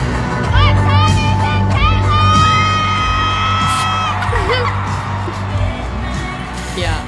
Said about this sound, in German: und kurz davor schreit das Publikum, what time is it